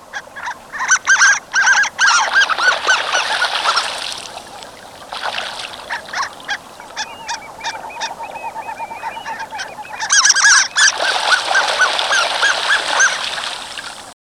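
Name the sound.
harlequin duck calls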